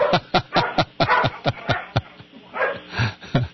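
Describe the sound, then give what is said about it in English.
A dog barks rapidly in a steady series of about ten sharp barks, then the barking briefly eases into a softer, muffled stretch before a couple more barks. “He's got something he's barking at.”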